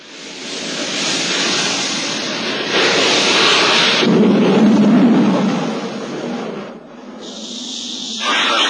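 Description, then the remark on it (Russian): A loud, continuous roar of a jet aircraft engine at takeoff with afterburner on, full of harsh hiss and rumble, swelling and shifting before briefly easing and surging back up. “Сейчас вы услышите запись одного полета.”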